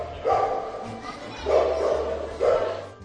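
animal, dog barking

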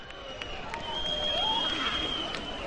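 crowd, crowd booing

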